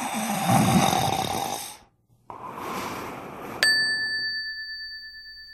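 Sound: snoring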